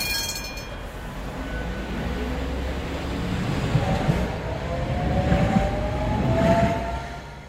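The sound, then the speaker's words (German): A Tatra tram runs along its rails in Berlin, a steady low rumble and clatter overlaid by a rising electric motor whine that swells toward the end. No one speaks. “Tschüss, beziehungsweise schauen wir mal, ob es wirklich so kommt, denn irgendwie hat sich dieses Straßenbahnmodell in Berlin wieder alle Vorhersagen immer wieder erhalten können.”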